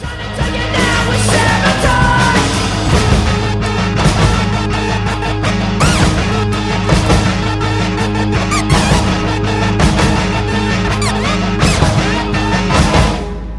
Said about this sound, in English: It was pretty cool, but there's a part in the middle where it kind of breaks down, and then it just builds right back up to a scream, and it just gets me going every time. So here we go.